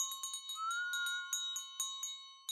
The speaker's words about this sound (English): Thank you, kind sir, and a bountiful Merry Christmas to you. The charity woman sang out while ringing her bell.